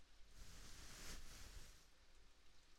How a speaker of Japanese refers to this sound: 雨ですね。なんか雨って二人とかで聞いていると落ち着きませんか？私は一人で雨の音を聞くのはちょっと切なく感じちゃうんですけど、こうしてあなたと二人で聞いていると